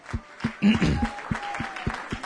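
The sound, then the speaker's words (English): A church audience claps hands together in worship of the Lord in a steady, even rhythm, roughly three claps per second, with a brief shout early on and a faint sustained tone running underneath. “Would you worship the Lord with a hand clap right now?”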